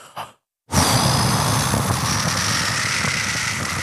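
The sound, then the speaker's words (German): A voice imitates a waterfall with a steady, loud rushing hiss that starts abruptly after a brief breathy sound and pause, then holds for several seconds without words. “So klingen Wasserfälle.”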